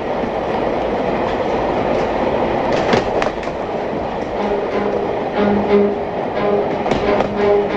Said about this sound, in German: die Kamera fixiert Eisenbahngeleise, wir rasen auf Schienen durch die Nacht.